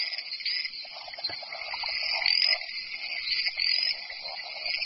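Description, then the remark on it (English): A dense chorus of large tree frogs calling continuously to unseen females at breeding time, with overlapping trills and occasional sharper chirps rising above the steady, fairly loud drone. No one speaks. “Once settled, they begin to serenade their unseen females.”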